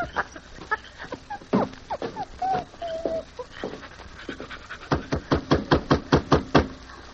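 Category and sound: animal, dog panting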